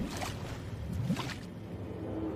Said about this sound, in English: He heads to the stern and studies the outboard motor. He takes up the pull start cord. The dinghy is struck from below.